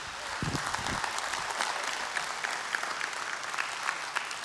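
A church audience breaks into steady applause for a first-time guest, a dense wash of many hands clapping at an even, moderate level throughout, with no voices rising above it.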